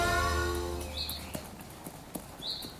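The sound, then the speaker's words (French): A horse's hooves clop sharply a handful of times at an uneven, unhurried pace as a rider arrives at a friend's house, after a low droning tone fades out, with faint high chirps drifting in the background. “Arrivé à la maison de son ami, il me demande un coup de main pour descendre de son cheval.”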